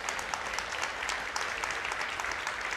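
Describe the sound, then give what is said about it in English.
An audience applauds the guest preachers steadily, many hands clapping together in a dense, even wash of claps that holds at a fairly strong level throughout, with no voices standing out. “Would you give them a great applause?”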